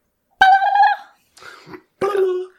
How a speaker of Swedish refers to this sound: Det är något blandning mellan Cena och en kalkon. Okej, det där var faktiskt en kalkon.